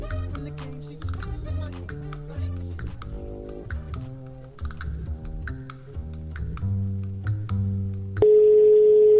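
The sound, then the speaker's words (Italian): Music plays with a steady beat, then cuts abruptly to a loud, continuous telephone line tone on the radio station Radio Contado as another phone link begins, a single unbroken hum that fills the final second. “rieccoci, come sentite da questo tono. Subito un altro collegamento.”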